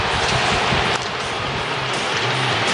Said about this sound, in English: He deserves that chant from the crowd here this afternoon.